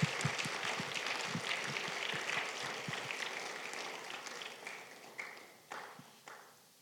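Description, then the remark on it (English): A crowd claps steadily for the usher team, the applause thinning out over several seconds until only a few scattered final claps remain. “Let's give our usher team a round of applause.”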